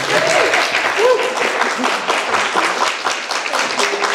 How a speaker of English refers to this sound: Please clap